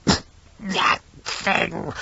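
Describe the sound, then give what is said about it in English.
A run of about four harsh, raspy coughs, fairly loud, coming in uneven bursts with short gaps between them and no other sounds around them. “It started coughing.”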